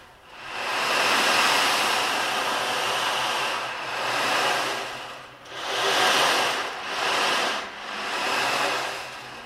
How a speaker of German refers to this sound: Also es sollte Wind sein, ja? Vielleicht ist es aber auch so ein Wind. Nee, andersrum. Also auf dem Berg, da geht Wind. Da ist es häufig windig.